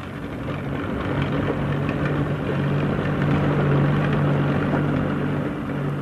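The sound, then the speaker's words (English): A steady, loud drone of propeller aircraft engines, a low throbbing hum with a rough buzzing edge that swells slightly midway, continuous with no voices, as aircraft are brought out of the hangar for the first flights. “Out come the aircraft for the first flights, drawn stern first by small tractors, the only undignified position in which one sees these machines.”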